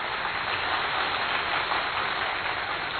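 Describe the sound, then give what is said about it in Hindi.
An audience seated in a hall claps for themselves steadily for about three seconds, many hands blending into a dense, even wash of applause with no voices over it. “थोड़ी अच्छे से बजाइए ताली।”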